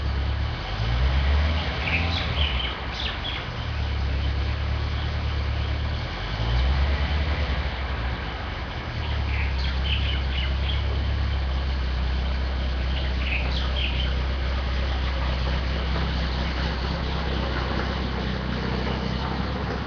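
A vehicle engine idles with a deep, steady rumble, its low drone dipping and shifting pitch a couple of times as the driver tries to put it into first gear, with faint chirps above.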